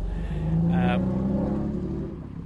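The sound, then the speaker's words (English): A powerful grand touring car engine revs, its deep rumble climbing slightly in pitch and holding steady for a couple of seconds before easing off. “You can certainly hear the power of the engine there.”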